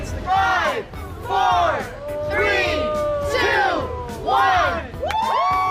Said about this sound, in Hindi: ये आवाजें हैं उस काउंटडाउन की जिसके बाद कनाडा से ताल्लुक रखने वाले